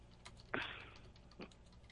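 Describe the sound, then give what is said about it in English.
A few scattered computer keyboard clicks tap out at an uneven pace, one sharper keystroke standing out with a brief ringing tail, all fairly quiet with no voices. “Takes a lot of typing to put that on.”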